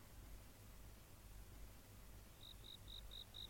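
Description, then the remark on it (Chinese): Cicadas chirp ceaselessly on a humid summer night in a steady run of short, evenly spaced bursts that begin partway through, set over a constant low hum and faint hiss of night ambience, with no voices. “这是蝉鸣不止而潮湿的夏夜”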